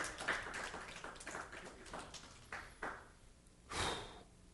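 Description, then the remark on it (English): A crowd claps in a brief round of applause, a dense patter of overlapping hand claps that thins into a few scattered, louder claps before fading out, with no one speaking. “You can give him applause.”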